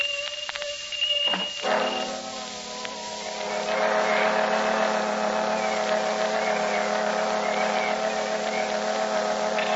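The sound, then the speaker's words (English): Fire engines roar past with sirens wailing, a heavy engine drone layered with wavering high tones that swells louder after a few seconds and holds steady, with no voices. “Oh, there go the fire engines.”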